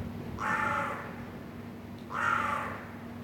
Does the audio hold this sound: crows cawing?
yes